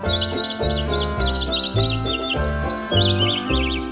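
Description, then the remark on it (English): A bird chirps out the Jingle Bells tune in quick, bright phrases, sung over a steady, loud instrumental backing track that continues throughout. “Now that your holiday shopping list is figured out, enjoy this bird singing Jingle Bells.”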